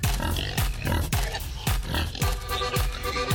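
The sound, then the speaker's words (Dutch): A farmer's pigs grunt over and over in a steady rhythm, about seven short low snorts in a few seconds, fairly loud with no one speaking. “Jouw varkens hebben me honger.”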